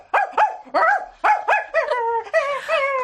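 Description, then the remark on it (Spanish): A person imitates a dog, giving about seven quick, loud yaps in a rapid series, with the last few stretched into whiny, howling yelps. “Bueno, yo puedo hacer otra vez el perro.”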